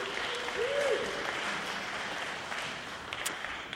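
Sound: audience clapping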